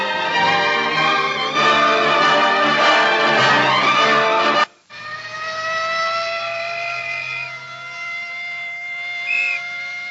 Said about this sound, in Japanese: 午前5時50分、右側を走っていた車はサイレンを合図に一斉にその場で停車した。そしてゆっくりと左側車線に入る。